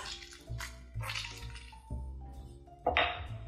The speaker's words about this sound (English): I'm gonna cut them in half. And start using my citrus reamer to just catch as much juice as possible in this quarter cup measure.